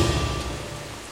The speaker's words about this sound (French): À la tombée du jour, alors qu'il s'assoit au pied d'un arbre pour passer la nuit, une pluie diluvienne s'abat sur lui.